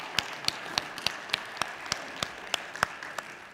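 A church audience gives a big round of applause, with a steady wash of clapping and one set of sharp, evenly spaced claps standing out in a quick, regular rhythm throughout. No one speaks.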